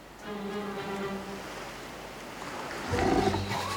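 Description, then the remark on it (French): A fur seal gives a series of deep, harmonic growls and roars, the loudest burst near the end, over a steady wash of surf-like background noise. “Une otarie à fourrure s'est installée là.”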